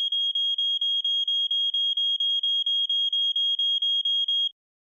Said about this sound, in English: Check the alarm every month. To check an alarm, push the test button and listen for the alarm sound.